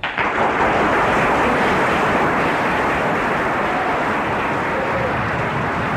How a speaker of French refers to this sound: Applaudissements sur les bancs de la Sorbonne, qui peuvent nous étonner aujourd'hui, où nous avons tendance à parler autrement, en racialisant.